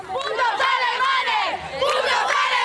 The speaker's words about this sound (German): Ein bisschen weniger freuen sich die Mallorquiner. Etliche von ihnen stehen während der Show vor der Arena auf der Straße. Die Mallorquiner demonstrieren gegen die Show im Speziellen und gegen Deutsch auf ihrer Insel im Allgemeinen.